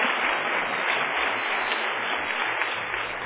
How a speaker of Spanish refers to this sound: Muy bien ese aplauso.